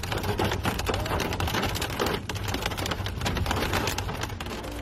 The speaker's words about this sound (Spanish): Varias tormentas de granizo han cubierto por momentos de blanco las calles, carreteras y campos en varias localidades de Cuenca, como por ejemplo Villares del Saz y Cervera del Llano, o en Albacete, donde el granizo descargaba con fuerza en Letur,